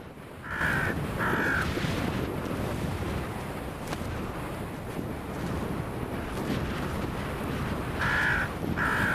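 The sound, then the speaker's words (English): Crows give loud, harsh alarm calls while mobbing an eagle, two calls near the start and two more near the end, over a steady rushing wind or water noise. No one speaks. “When they spot an eagle, they make loud alarm calls and fly up to confront the threat.”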